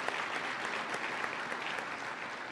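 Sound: round of applause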